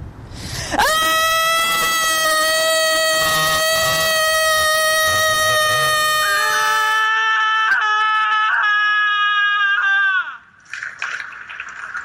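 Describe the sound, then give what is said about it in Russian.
A loud, steady, high-pitched scream held for about ten seconds during a minute-of-screaming protest in the European Parliament, with a second lower voice joining partway through. Both cut off together, followed by a short burst of background noise. “І всё нам це позостає до минута крику. І мам надзея, що всі і всі на свій спосіб закричимо.”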